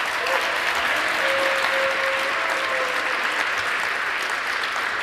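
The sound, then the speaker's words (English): A large audience claps steadily for about five seconds for a speaker after the question session of a talk, a dense, even wash of applause with no pauses, fairly loud and sustained throughout, with a faint tonal whistle or hum briefly above it. “Okay, then please give our speaker a warm round of applause.”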